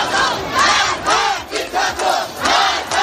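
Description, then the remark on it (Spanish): A street protest crowd in Iran, protesting after the death of Mahsa Amini, chanting in unison, many voices shouting a rhythmic slogan in loud, regular bursts about every half second, with no single speaker standing out. “Es el sonido de las protestas que se han venido sucediendo en Irán tras la muerte de la joven de 22 años, Mahsa Amini, que había sido arrestada por la llamada Policía de la Moral por llevar supuestamente mal puesto el velo islámico.”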